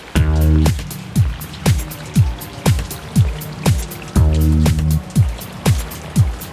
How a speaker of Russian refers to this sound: Какого черта? Здесь же дождь.